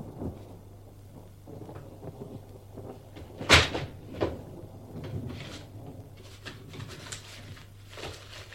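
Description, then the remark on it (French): Cupboard doors being opened: a sharp wooden knock and creak, then a second softer thud and some faint rattling, over a low steady hum. “Un soir d'orage, je ne sais quel mauvais génie me donna l'idée de regarder dans tes placards.”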